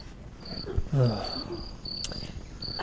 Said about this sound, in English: You're playing crickets?